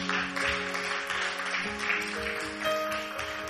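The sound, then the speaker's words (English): A church audience claps steadily for the worship team, a dense patter of many hands, with sustained keyboard or organ chords playing underneath throughout. “Give them a big hand clap.”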